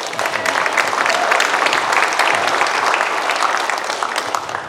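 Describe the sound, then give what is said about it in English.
Scattered, polite sympathy clapping from a small group after a poem is recited, steady and moderately loud, with dense overlapping hand claps and no voices, fading slightly toward the end. “That was a sympathy clap.”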